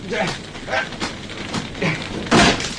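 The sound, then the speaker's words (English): Metal scraping and grinding against wood, with strained effort sounds, ending in a sudden loud crack as a locked door is forced open with a poker wedged into the mortise. “Now, if I can get the end wedged into the mortise”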